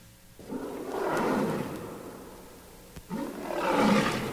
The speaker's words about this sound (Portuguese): Rapaz! Solta o leão.